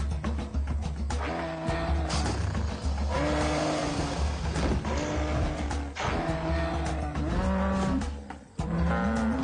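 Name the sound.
cow mooing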